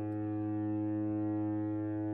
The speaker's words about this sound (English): Foghorn sound throughout Nanaimo as thick, cold fog has made a prolonged appearance on the coast. For about a week, while the sun works to shine through, fog has blanketed over central Vancouver Island, leading to reduced visibility